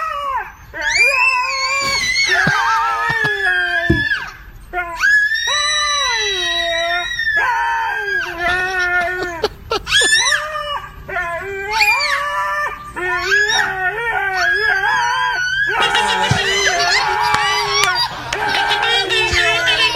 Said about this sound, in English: And when they figure out that they can yowl, that's always a tragedy in the house that is owning a husky, especially if you have a husky and a toddler. And the toddler realizes that if the toddler screams, the husky screams.